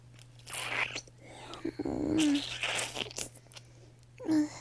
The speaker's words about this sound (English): Licking isn't very effective.